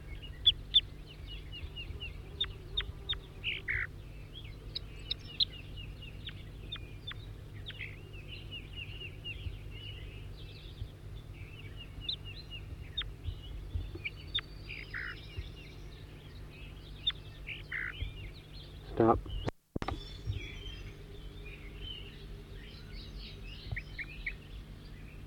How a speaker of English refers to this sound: Four, three, and back in song, trying to get the new bird again, who's giving loud flight calls occasionally.